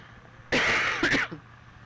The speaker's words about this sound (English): The cough sounds worse than it is.